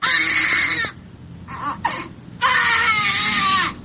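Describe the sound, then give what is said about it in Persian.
A newborn baby, born addicted to drugs because its mother used drugs during pregnancy, wails loudly in long, strained cries, broken by a short pause with a couple of brief gasping whimpers before the crying resumes at full strength. “اینها اطفال هستند که مادرانشان در هنگام حاملگی از مواد مخدر استفاده میکردند و این نوزادان نیز معتاد به دنیا آمدند.”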